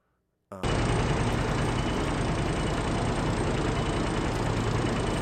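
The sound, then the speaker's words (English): A lawnmower engine, slowed down to imitate an old rickety propeller airplane, starts abruptly after a brief silence, then drones steadily and loudly with a low, rumbling, throbbing texture. “And I believe that this coming up is my lawnmower slowed down.”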